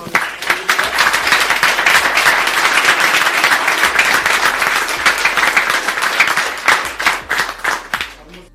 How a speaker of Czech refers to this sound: Tak já myslím, že můžeme asi zatleskat našemu týmu.